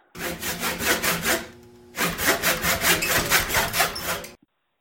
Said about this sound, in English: The other one is me with my hacksaw and a piece of wood.